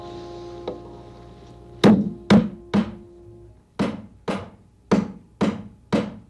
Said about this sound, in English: Now I'll just do some hammering just for fun.